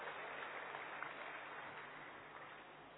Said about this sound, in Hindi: ताली बजा करके आप स्वागत करिए।